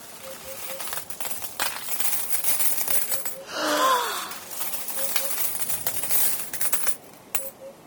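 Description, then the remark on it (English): A cascade of gold coins spills and clatters out of an emptied bucket pulled up from a well, many sharp metallic clinks tumbling over each other, with a brief whooshing pour in the middle and a few last coins rattling down at the end. “Gold! These are gold coins.”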